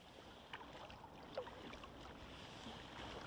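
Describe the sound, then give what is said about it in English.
Soft water sloshing and lapping against a kayak being paddled in Sydney's Middle Harbour, Australia, near Balmoral Beach, with a few light splashes of the paddle dipping, over a steady outdoor wash of wind and open water. “I'm paddling a kayak in Sydney's Middle Harbour, not far from Balmoral Beach.”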